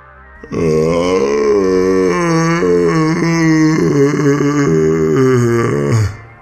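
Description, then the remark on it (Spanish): A long, hoarse, throaty groan from a man's throat, wavering and rasping like an irritated cow's low or an angry frog's croak, loud for several seconds before cutting off. “otro ronco sonido salía de su garganta. Este sonaba como a una vaca irritada y una rana enojada.”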